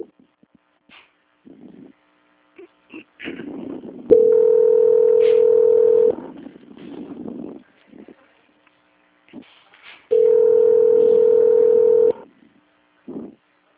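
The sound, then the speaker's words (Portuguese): Two steady, loud telephone tones of about two seconds each, a few seconds apart, as a phone call is transferred to the quality control department, with faint muffled line noise and murmuring in between. “Por gentileza, não desligue o telefone, tá bom? Sim. Ok, obrigado. Só um segundo. Transferência.”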